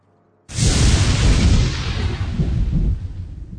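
nature, thunder

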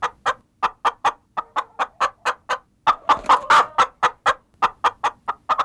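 bird, hen clucking

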